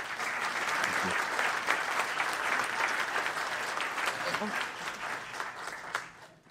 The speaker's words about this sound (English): Can I have one more round of applause for us?